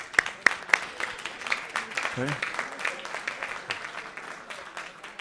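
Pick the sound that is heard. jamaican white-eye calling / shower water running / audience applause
audience applause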